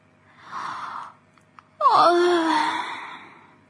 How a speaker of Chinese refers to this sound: 一天一天的过去了， 柔萨利接连不断地打着哈欠，打着哈欠，直到一个晚上。